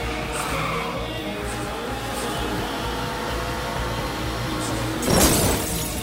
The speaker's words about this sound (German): Bang, betrunken das Auto gegen die Wand gefahren. So heftig und verzweifelt und todtraurig, wie Birol Ünel hier für Fatih Akin im gleichnamigen Film gegen die Wand fuhr und danach durch einen ganzen Film taumelte und wütete, das war ein Ereignis.